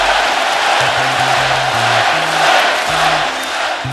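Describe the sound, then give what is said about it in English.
A large arena crowd at Oracle Arena chants "Klay" for Klay Thompson during his 60-point night in a Warriors win over the Indiana Pacers, December 2016, in a steady, repeating two-beat rhythm, the voices rising and falling over a constant roar of the packed stands. “The crowd is chanting Klay.”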